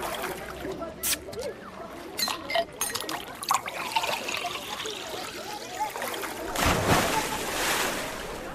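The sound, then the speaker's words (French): Splashing, trickling water sounds with scattered clicks, building to a loud rushing surge like a breaking ocean wave near the end, as part of a short summery jingle. “T'es jingle d'été”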